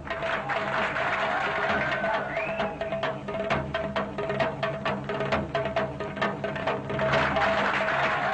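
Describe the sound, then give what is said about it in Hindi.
A crowd claps steadily and continuously, a dense patter of many hands holding at an even, fairly loud level from start to finish, with a faint steady tone humming underneath, applauding a girl about to perform a stunt on a rope. “खातीनों हजरात, अब हमारी बेटी इस रस्सी पे करतब दिखाएगी, इसके लिए तालियां।”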